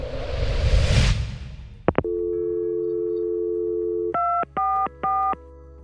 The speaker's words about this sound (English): as soon as I got a dial tone, I called 911